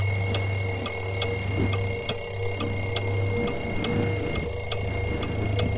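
A mobile phone alarm rings steadily, its repeated electronic pulses ticking in an even rhythm over a low, constant hum, fairly loud, with no one speaking.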